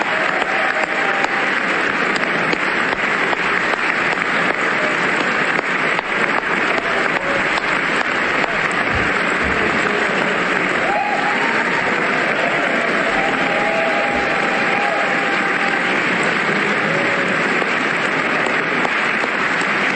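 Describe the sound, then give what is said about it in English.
A large crowd gives President Trump a standing ovation, applauding loudly and steadily for the full stretch, a dense, unbroken wash of clapping with faint cheers and whistles rising above it now and then. “A raucous crowd.”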